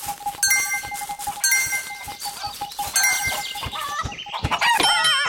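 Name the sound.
chicken clucking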